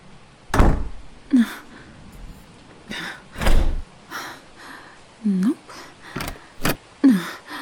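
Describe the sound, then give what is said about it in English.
Muffled bumps and shuffling movement behind a locked door, with a few heavy thuds spaced several seconds apart and short grunting or gasping vocal sounds in between, moderately loud. “I hear shuffling around.”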